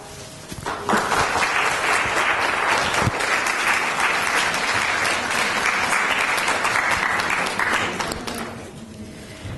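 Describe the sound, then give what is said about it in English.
A crowd bursts into steady applause for the speaker at the close of an evening talk: dense, overlapping clapping that rises quickly, holds loud for several seconds, then tapers off near the end. “If we can just get another round of applause for our speaker here today.”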